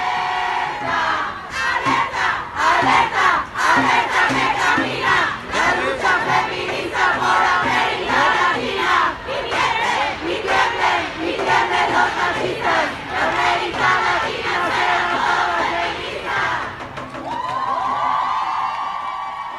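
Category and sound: crowd, protest march crowd chanting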